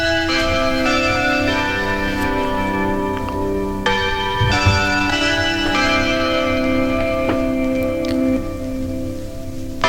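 Small bells chime continuously before the strong midnight bell strikes that ring in the New Year 2020, a dense, overlapping jingle of bright ringing tones layered over a steady rustling wash, with occasional sharper strikes and no talking.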